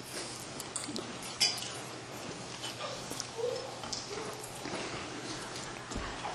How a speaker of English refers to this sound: Let me get a sip of water.